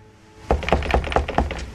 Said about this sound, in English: Snowflakes still clinging to his shoulders, he sighs deeply, then lifts a hand to knock on the door.